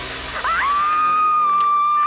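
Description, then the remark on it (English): Jamie Lee Curtis lets out a loud, sustained scream of terror in the 1978 horror film Halloween. Her voice sweeps upward, then holds one high, piercing note, alone with no talking. “The glorious vocal cords of Jamie Lee Curtis in the 1978 cult horror classic Halloween.”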